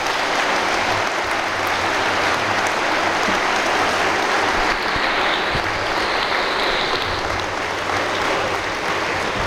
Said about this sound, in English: One more round of applause for these gentlemen.